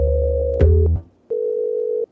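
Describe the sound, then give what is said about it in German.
Telephone line tones with no voices: a steady buzzing tone, a click, a short pause, then one clear, even ringback beep as a call connects, fairly loud. “Am Telefon begrüße ich”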